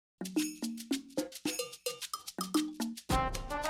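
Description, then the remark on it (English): A doorbell chimes a quick, bright melody of about a dozen bell tones that step up and down in pitch, finishing with a louder, sustained ringing note. No voices are heard. “As he was piling ingredients on the table, the doorbell rang.”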